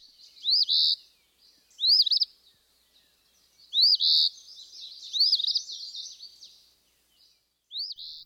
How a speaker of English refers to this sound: And also you mentioned phoebes. Let's hear from the eastern phoebe.